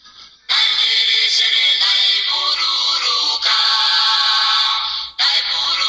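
signal or alarm, phone ringtone playing

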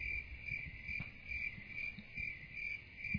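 insect, crickets chirping sound effect

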